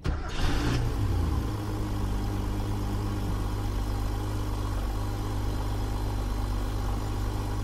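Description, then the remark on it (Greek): An air-cooled sports car engine cranks and fires up with a brief burst, then settles into a steady, throbbing idle, with no one speaking. “Αερόψυκτος κινητήρας. Αερόψυκτος.”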